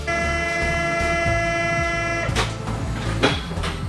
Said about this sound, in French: Le bruit du RER. RER, 40 ans que ça rame.